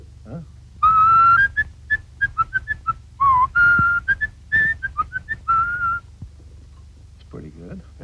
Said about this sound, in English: This is a little robin that we had in Mary Poppins. And this little bird sang a duet with Julie Andrews. Maybe we can get a little response from it.